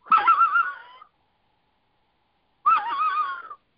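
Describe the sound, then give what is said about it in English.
An old predator call gives two short coyote-style howls, each about a second long with a pause between, wavering and warbling in a raspy mid-high pitch. No talking. “Coyote howls with it.”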